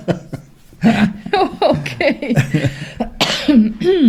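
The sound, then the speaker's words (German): Several short coughs break out amid chuckling and some voiced sounds, the bursts coming irregularly over a few seconds. “Ich traue mich nicht mehr zu husten hier.”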